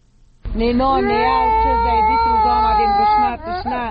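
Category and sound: human body sound, toddler crying from hunger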